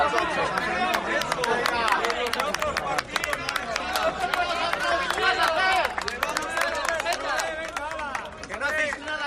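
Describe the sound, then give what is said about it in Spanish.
A large crowd of farmers and ranchers protesting at the Cortes of Castilla y León applauds steadily. Dense clapping mixes with loud shouted voices of disapproval and scattered whistles, partly aimed at Junta vice-president Juan García Gallardo, sustained without a pause. “Aplausos, pero ya lo estás escuchando. También algunos reproches y silbidos, entre otros, al vicepresidente de la Junta de Castilla y León, Juan García Gallardo.”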